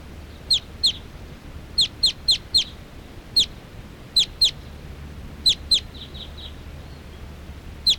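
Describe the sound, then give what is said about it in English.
Wild birds, apparently all females, perching in a big tall tree and calling in sharp, high-pitched chirps, about a dozen, coming singly and in quick pairs and triplets over a steady low rumble, with a few fainter chirps near the end. “There are some wild birds here coming around.”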